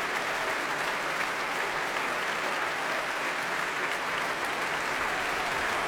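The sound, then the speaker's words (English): Sustained, dense applause from a large concert audience after a symphony orchestra's performance, greeting the orchestra's principal oboist, a broad steady wash of clapping at even loudness from start to finish with no voices standing out. “And roars of applause for the Oslo Philharmonic's principal oboist.”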